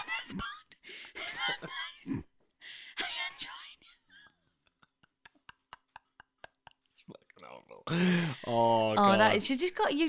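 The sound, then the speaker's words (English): A voice mimics heavy, wheezy breathing in rasping, breathy bursts, then falls quiet apart from faint clicks, before ending in a strained, moaning vocal sound. “You just gotta say, do you remember when I said that the heavy breathing was nice?”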